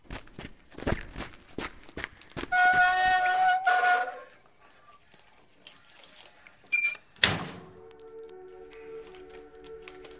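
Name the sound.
door closing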